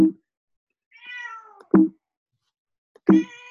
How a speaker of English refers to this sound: It's my cat.